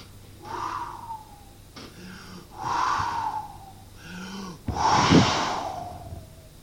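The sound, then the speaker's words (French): A voice imitates a wolf blowing hard: three long, forceful breathy blows, each swelling and fading, the last the loudest and raspiest, with quick intakes of breath between them. “Et le loup souffle.”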